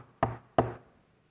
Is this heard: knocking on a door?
yes